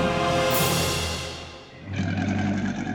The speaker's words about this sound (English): As the Chimera saw Bellerophon rushing toward her, she opened her lion's mouth wide. She roared loud enough to shake the mountain.